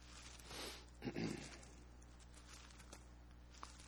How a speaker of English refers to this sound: This is practice turning pages in the Bible. Class 101.